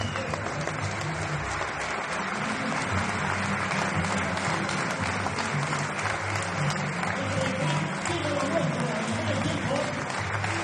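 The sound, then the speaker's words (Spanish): Sustained applause from more than 500 people in the assembly hall of Colegio Raimundo Lulio in Vallecas, welcoming an honoree at a book presentation along a corridor. The applause is dense and steady throughout, with a murmur of voices mixed in beneath the clapping. “homenajeado en el pasillo por los aplausos y por el propio speaker, también un hombre muy importante del Rayo Vallecano en ese colegio, para hacerle ese pequeño homenaje.”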